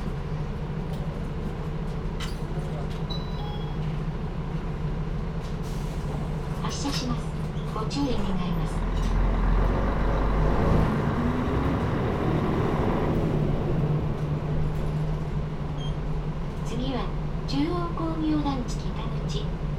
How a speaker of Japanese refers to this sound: 次、止まります。バスが止まってから席をお立ちください。